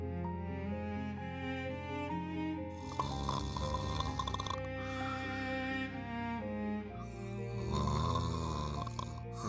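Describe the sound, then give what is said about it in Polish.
A man snores in long, rasping breaths, two loud drawn-out snores a few seconds apart, with a steady droning tone running underneath throughout. “Ale chrapie skubany.”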